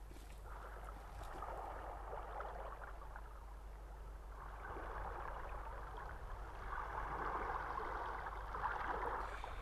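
Steady washing of sea water at night with broad, surging swells that rise and fall over several seconds, like waves rolling in, with a constant low rumble underneath and no voices.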